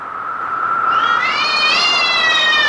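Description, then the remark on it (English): A single drawn-out cat meow, loud, rising into a bright, wavering yowl that holds for a couple of seconds with no talking. “Thrice the branded cat hath mewed.”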